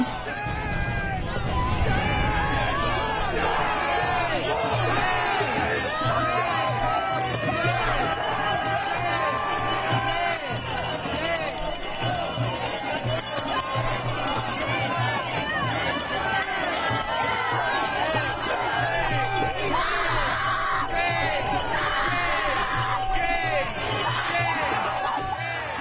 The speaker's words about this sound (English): Shame, they scream, shame.